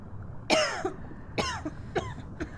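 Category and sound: human body sound, coughing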